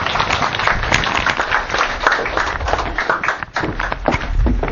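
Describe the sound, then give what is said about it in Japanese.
Steady applause from an audience welcoming a lecturer fills the whole stretch, a dense, even wash of many hands clapping at once with no voices over it, briefly thinning near the end before swelling again. “どうも拍手を持って皆さんお迎えしたいと思います。”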